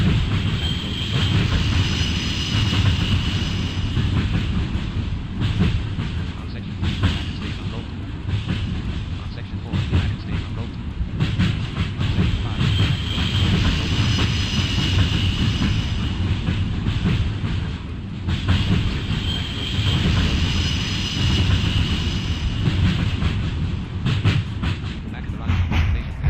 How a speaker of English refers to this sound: Man, that those train sounds need to be lowered.